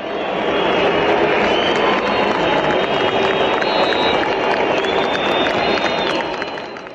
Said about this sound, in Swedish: Ett mishmash av lite applåder från tillresta italienska fans och visslingar från den saudiska publiken.